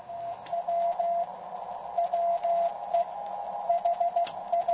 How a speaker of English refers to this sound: The way the program works is I tune my FT-857D radio to somebody sending Morse code, and then I fine-tune it so that the tone that you're hearing is a frequency of 700 hertz.